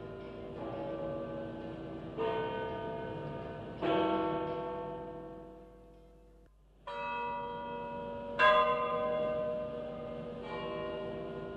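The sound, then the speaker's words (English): The bells of St. Peter's in Rome toll loudly to announce the death of Pope John Paul I in September 1978, with no talking, several strikes at uneven intervals, each ringing out with rich overtones that swell and slowly decay, overlapping into a continuous resonant wash before a brief quiet gap. “The actual sound of the bells of St. Peter's tolling to let the world know the newly elected Pope was dead.”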